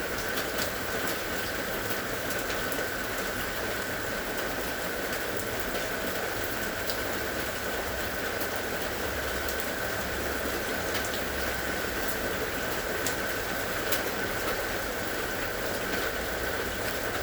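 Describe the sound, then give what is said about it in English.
Steady rain pours down without pause, a dense, even hiss of drops spread across the whole clip, constant with no voices. “What does that feel like to be aware of listening to the rain with the entire body?”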